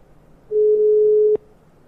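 A single steady telephone ringing tone sounds for under a second, clear and fairly loud, then cuts off abruptly with a click as the call connects. No one speaks.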